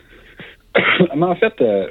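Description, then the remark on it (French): A single loud sneeze bursts out after a quiet moment, followed straight away by voiced, speech-like sounds from the same person. “j'ai éternué.”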